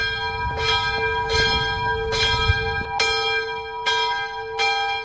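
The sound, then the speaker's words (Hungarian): A mausoleum bell, set ringing by a smartphone app, rings steadily in a slow, regular rhythm, its ropes swaying on their own, each strike blooming into a rich, lingering hum of overtones that overlaps the next, loud with no voices. “előveszi az okostelefonját, bekapcsol egy alkalmazást, és megszólal a harang.”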